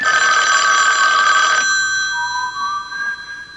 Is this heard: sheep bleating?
no